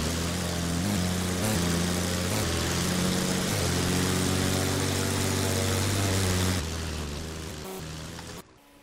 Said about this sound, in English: It's pretty windy out. I'm guessing due to the wind that we got going on out here. I can hear the wind. See what a flyby sounds like at this speed.